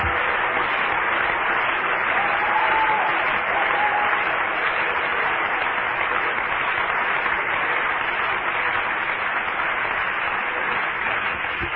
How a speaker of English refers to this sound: Let's clap our hands to the Lord a while.